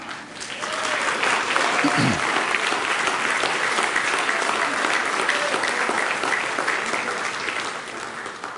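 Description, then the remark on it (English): An audience breaks into steady applause, dense hand clapping that swells quickly and holds strong for several seconds before easing off slightly at the end. “cut this part off of the video because the Russians, the Lithuanians, the Polish, and all those that was coming will not like that hand clap.”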